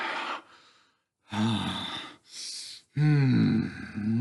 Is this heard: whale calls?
no